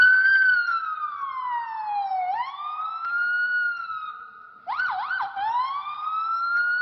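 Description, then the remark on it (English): A man's voice imitates a police siren, with a steady rising and falling wail that breaks into a couple of quick yelping sweeps before settling back into the long wail. No other sounds. “The moment where he transitions to the yelp, to the quick yelp, it sounds a little human.”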